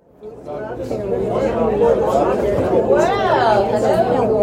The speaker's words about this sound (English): It's Wednesday, Spaghetti Day. Pods of people chat and sip coffee at long rectangular tables as they wait for lunch.